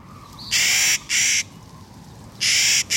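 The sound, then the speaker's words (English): A Clark's nutcracker gives three loud, harsh, grating calls, two in quick succession and a third after a pause, over faint outdoor background. “Clark's nutcracker, named for the famous Western explorer William Clark, is one of nature's indispensable tree planters.”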